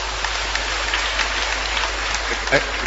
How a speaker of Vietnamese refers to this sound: Cho một tràng pháo tay thưa anh chị em.